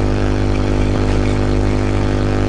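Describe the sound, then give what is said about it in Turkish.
Steady outdoor traffic noise with wind, a constant low engine rumble with a broad hiss over it as cars and buses pass. No voices are heard. “Araba geçiyor, otobüs geçiyor, bir şeyler, rüzgar var işte.”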